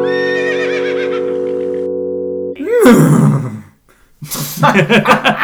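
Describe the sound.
A person imitates a horse's neigh, a loud, wavering whinny-like cry broken into bursts with a brief pause, preceded by a steady droning tone.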